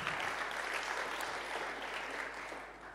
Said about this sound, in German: Auch Applaus für Sie einmal.